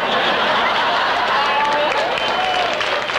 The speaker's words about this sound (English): And you hear all those people applauding? Yes. Well, we're all over at Durando's Bar.